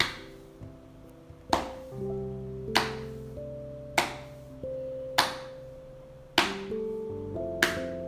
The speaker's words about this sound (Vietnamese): Hãy lắng nghe những âm thanh phát ra khi mà mình vỗ vào bụng và cảm nhận cái độ rung lắc của cả cơ thể mình.